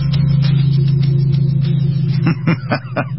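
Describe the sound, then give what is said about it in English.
A lawn mower cutting grass next door drones steadily, its low, buzzing engine hum holding a constant pitch, then sputtering and pulsing unevenly over the last second. “Nothing I like better than to be doing a morning drive time show and to have the guys show up next door to cut the grass.”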